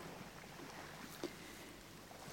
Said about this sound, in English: And as we stand here, we can smell the sea, the slight tinge of seaweed. We can hear the wind gently, gently caressing us. And we can hear the waves gently lapping in.